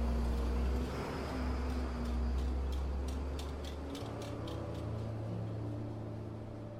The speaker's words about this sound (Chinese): 苏雪薇和方雨涵都坐在车里，正准备做最坏的打算的时候，突然从后视镜中反射出一丝光亮，随后就听见一阵汽车引擎的声音从远处传来。